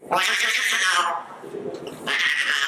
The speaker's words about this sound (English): You know, she'll do some calling to Felicia. So you'll hear the little sort of the cub cry. A recording of her a few weeks old.